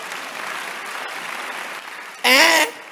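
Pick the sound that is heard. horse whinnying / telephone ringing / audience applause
audience applause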